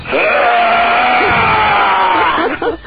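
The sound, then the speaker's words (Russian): Several voices on a radio show roar together in chorus ahead of the Year of the Tiger, a loud, sustained growling imitation of a tiger that holds for about three seconds before breaking off into ragged bursts at the end. “Давайте, приближается год тигра, нужно его задобрить немножко, и вот нужно быть, как говорится, на одной волне.”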